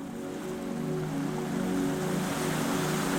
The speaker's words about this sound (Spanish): Puedes escuchar el mar con mayor nitidez